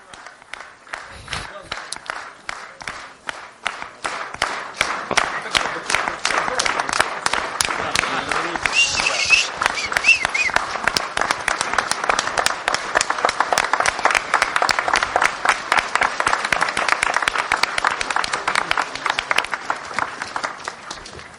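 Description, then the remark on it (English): A crowd at a congress applauds its friends from many countries steadily for about twenty seconds, many hands clapping in a dense, fast patter that swells after the first few seconds and stays loud and even to the end. “Let's clap our hands for all of these great friends.”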